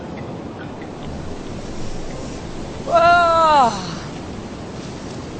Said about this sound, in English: This is the slightly warmer Indian Ocean. Near Cape Town, of course, it's the Atlantic, which is freezing.